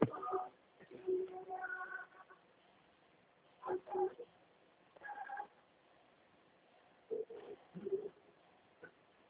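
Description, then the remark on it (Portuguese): Five cats meow in short, separate bursts, some longer and drawn out, others brief, with quiet pauses between them, against a soft background. “Tem 5 gatos aqui.”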